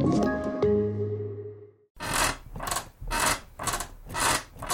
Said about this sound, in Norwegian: Slutt å forstyrre naboen med den knirkete senga di.